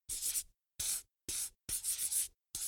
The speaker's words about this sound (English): Put a circle round it with a red pencil and color it blue.